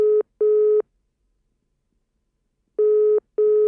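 A telephone ringing tone heard down the line, two pairs of short double burrs separated by a long pause, clear and steady with no voices.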